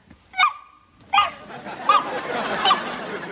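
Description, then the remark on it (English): A child's high voice mimics a dog, yapping four short barks at roughly even intervals, fairly loud over a steady background hiss. “What have we here? I am a doggy.”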